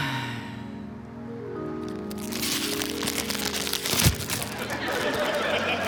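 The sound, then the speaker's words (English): Crackly crinkling of a plastic chip bag starts after a couple of seconds and keeps going, with one sharper crunch in the middle, following a soft humming tonal passage. “Was that a chip bag?”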